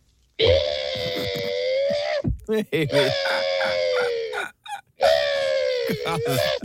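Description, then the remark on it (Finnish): A person loudly imitates a rooster crow three times in a row, each drawn-out cock-a-doodle-doo separated by brief pauses with a few short vocal sounds in between. “Siinä on aamuyön seuraavan päivän haukka.”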